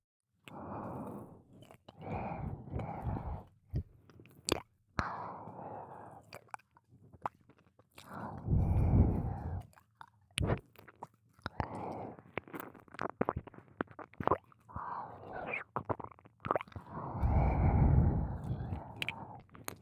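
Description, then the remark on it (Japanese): Wet, slurpy tongue-licking sounds on an ear, coming in slow repeated swells with sharp little smacks and clicks between them, fairly soft, with no talking. “舐められてもっと敏感になってるから、私の吐息がかかるだけでも気持ちいいね。”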